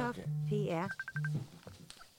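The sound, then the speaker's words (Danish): A Messenger app incoming call ringtone as someone calls: a short melodic sequence of tones with a sweeping chime and quick repeated beeps, playing clearly before trailing off into quieter background sounds. “Nu så ringer han. Nu ringer han der.”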